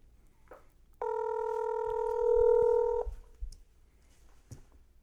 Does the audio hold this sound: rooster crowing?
no